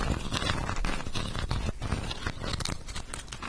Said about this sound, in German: Du kannst, glaube ich, du hast ja den Stift liegen, du kannst damit so ein bisschen drauf rumrascheln oder sowas.